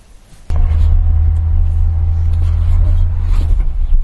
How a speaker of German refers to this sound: So, Leute. Zurück in the car, back in the Auto. Jetzt geht's ab wieder zurück nach Hamburg. Wir haben uns ungefähr, also wenn ich die Hinfahrt als Maßstab nehme, 3 Stunden Rückweg vor uns.